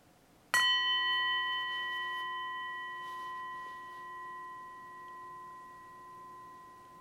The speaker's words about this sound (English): So as the sound of the bell fades away, imagining it as a gentle wake-up bell, reminding us that this longer sitting practice, as with all mindfulness practices, is here to help us to wake up, to be present with whatever we encounter